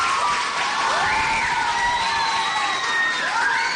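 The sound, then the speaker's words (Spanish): An audience applauds a photographer steadily, the clapping mixed with loud cheering, whoops and shouted voices that rise and fall throughout, a continuous dense roar with no pauses. “Vamos a hacerle un aplauso a Fermín porque ha sido el fotógrafo.”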